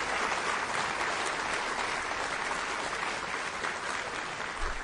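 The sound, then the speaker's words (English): An audience in Raleigh applauds first responders from the east and the west with steady, dense applause, a continuous crackle of many hands clapping at an even, fairly loud level for the whole stretch, with no voices rising above it. “And they deserve a round of applause either, our first responders from both the east and the west.”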